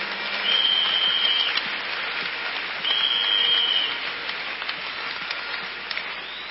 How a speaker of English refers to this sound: Let's clap our hands to our God.